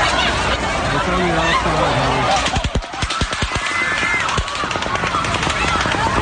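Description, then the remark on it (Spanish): Rapid bursts of automatic rifle fire, shot by a man from a window of the Mandalay Bay hotel onto a country music festival concert in Las Vegas, crack out in quick succession, echoing loudly, while the fleeing crowd shouts and screams before and during the shots. “La gente que asistía al concierto intentaba huir despavorida mientras continuaban las ráfagas de disparos”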